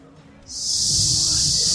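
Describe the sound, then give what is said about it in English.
A person imitates a snake with a long, steady, sibilant hiss that starts abruptly and holds loud for over a second, with faint low murmuring underneath, recorded at the lobby bar of the MGM Grand. “Snake. Slithery snake.”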